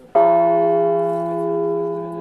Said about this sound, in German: So klingt Etienne. Eine von 8 Glocken aus der Kathedrale von Notre-Dame,